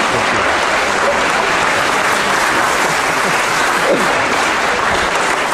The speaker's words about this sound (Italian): Per poco col vostro applauso le facevate perdere il finale qui alle signorine …, eh? Era così forte che non sentivano più il pianoforte.